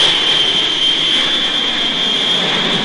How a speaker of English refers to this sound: In a jet slicing through the sky, the Lord is my shepherd.